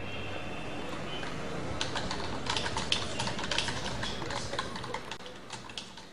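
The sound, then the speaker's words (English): Rapid, irregular clicking of typing on a computer keyboard, as someone searches the internet for information on the Arab Revolution, starts after a second or two of quiet and continues at a moderate level over a steady background hiss. “The video begins with flickering shots of a keyboard and screen”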